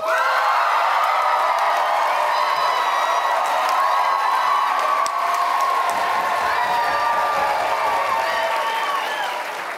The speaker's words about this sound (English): First, we will hear, in purely applause terms, we will hear from the dog side and then the cat side. And if I need to hear it again, you'll do it again. So, the dog side, who votes in favor of the dogs?